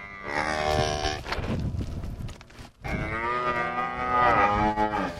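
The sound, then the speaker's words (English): Cattle moo loudly in two long, drawn-out calls with a brief pause between them, their harmonic bellows wavering in pitch over a low rumbling background, on a 550-head cattle operation in central Missouri where newborn calves are being tended. “Right now, he's tending the newborn calves.”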